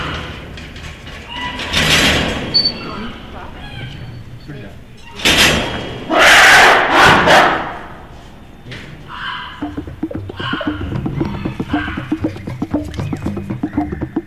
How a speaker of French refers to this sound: Mais rien ne ressemble au rugissement d'un gorille. Rien.